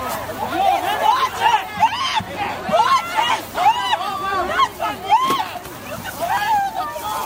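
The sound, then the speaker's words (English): A chaotic scuffle as about two dozen anti-logging protesters with linked arms press against a line of RCMP officers on a gravel road in the Fairy Creek watershed, Vancouver Island, in 2020. Many voices shout and yell over one another in a dense, continuous, loud uproar, with sharp cries rising out of the churning din. “It's called a blob, and as they press up against a line of blue uniformed RCMP officers, all hell breaks loose.”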